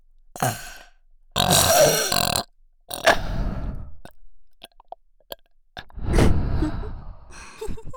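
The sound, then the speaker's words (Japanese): Several loud burps in a row, one long and drawn out near the start and another deep, rumbling one later, separated by short pauses and small breathy noises. “エロゲップかまされてみじめに射精しろ。”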